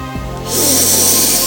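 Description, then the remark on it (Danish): A deep breath in and out rushes loudly during a guided breathing exercise, a steady breathy hiss of air that starts after a brief pause and holds, with a soft sustained musical drone underneath. “Tag et par dybe vejrtrækninger 3 gange.”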